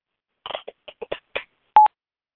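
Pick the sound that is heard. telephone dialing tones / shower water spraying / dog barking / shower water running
telephone dialing tones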